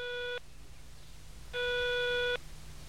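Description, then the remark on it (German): A telephone ringing tone heard down the line as a call to a mobile number goes unanswered, with no mailbox: two buzzy, steady electronic pulses, a short one and then a longer one, over a low background hum, with no voice. “Justus ließ es 8-mal klingeln. Dann legte er enttäuscht auf.”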